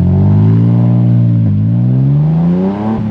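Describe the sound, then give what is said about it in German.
A car engine revs up loudly, its pitch climbing through gear changes as the vehicle accelerates away, with no voices. “und hat erstmals seinen Chefreporter fürs Mythologische ins Auto gesetzt, und zwar, Ach ja, mich.”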